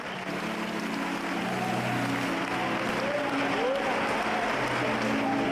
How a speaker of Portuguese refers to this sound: Os que podem, tomem seu assento e dê a Cristo uma linda salva de palmas.